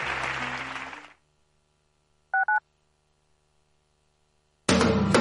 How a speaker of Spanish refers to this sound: Ay, perfecto, muy bien. Vamos a darles un aplauso porque lo han hecho relativamente bien.